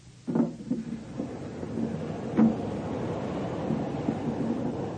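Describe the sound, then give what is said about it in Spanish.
A steady, dense roar of street traffic fills the scene, a continuous wash of engine rumble with a couple of brief louder thuds rising above it, no voices present. “¡Uf, cuánto tráfico!”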